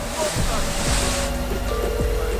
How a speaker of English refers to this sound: Later, at night, firefighters spray hoses at the building.